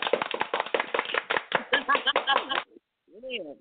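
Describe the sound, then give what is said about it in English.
A quick, steady burst of sharp hand claps runs for a couple of seconds, fairly loud, then stops; a voice briefly speaks afterward. “That's a hand clap.”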